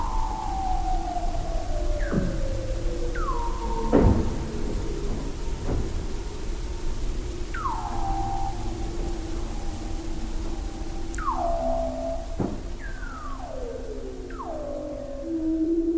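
Weddell seals call again and again in eerie, downward-gliding whistles and trills at the Ekström ice shelf in Antarctica, picked up by an open live microphone, while sharp cracks and crunches of crushing icebergs break through a constant low underwater rumble. No voices.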